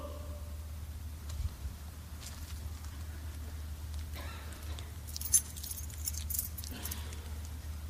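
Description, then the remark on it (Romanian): Keys jangle and clink in short bursts, growing busier and brighter toward the end, over a steady low background hum with no one speaking. “Asta este o cheie. Numai cu cheia asta poți să intri în camera aia.”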